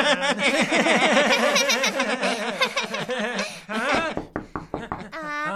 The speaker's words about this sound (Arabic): من يطرق الباب؟